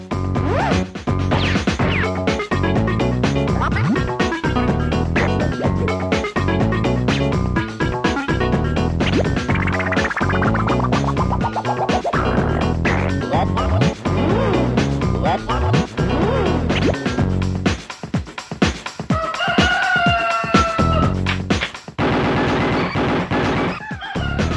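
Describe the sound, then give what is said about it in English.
A loud, frantic stretch of sped-up, high-pitched rooster squawks and crowing mixed with whacks and crashes, a sound effect of a cockerel's death, chaotic and continuous, ending in a final shrill cluck-like cry. “imagine this, but sped up. So it sounds a bit Alvin and the Chipmunks. The sound, ooh, that was the funniest death of a cockerel”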